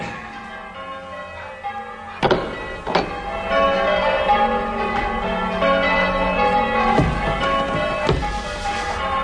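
Church bells ring in a belfry, heard from inside the tower one floor below the bells, their mellow, overlapping tones humming steadily while several heavier strikes land irregularly through the peal. No one speaks.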